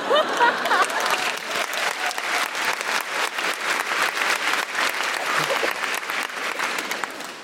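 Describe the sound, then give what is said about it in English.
A crowd applauds steadily, dense clapping from many hands at a fairly loud, even level throughout, with no voices standing out. “Now, I don't mean to make you feel bad, but what you've applauded there is white privilege.”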